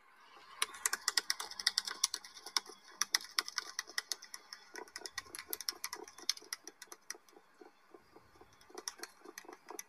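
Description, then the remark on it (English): A bird's bill rattle played from the Merlin Bird ID app: a rapid, dry clatter of sharp clicks in irregular bursts, steady for about ten seconds with no voices, rather like fast typing. “And then here's that bill rattle.”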